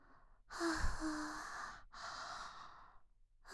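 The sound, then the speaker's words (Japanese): A long, drawn-out yawn with a breathy, voiced tone, followed by a softer second exhale and the start of another breath at the end. No speech. “あくび私にも映っちゃった。”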